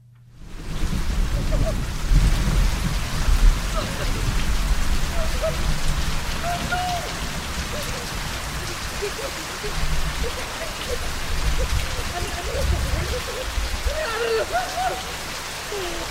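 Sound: rain falling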